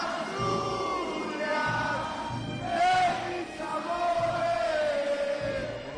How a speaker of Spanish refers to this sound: Miles de personas se echaban ayer a la calle para compartir la alegría con los jugadores del Real Oviedo